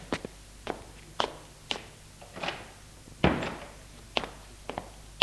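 household object, knocking on a door

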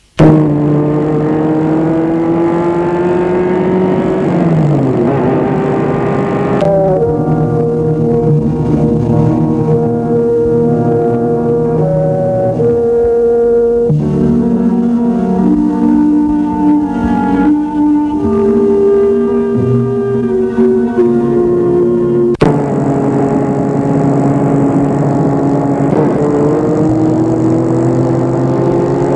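vehicle, car engine driving

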